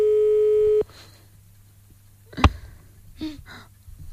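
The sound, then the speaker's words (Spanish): A single loud electronic ringback tone from an outgoing phone call sounds for under a second, then cuts off, followed by a sharp click and faint breathing on the line. “Les vamos a volver a llamar, les damos una segunda oportunidad.”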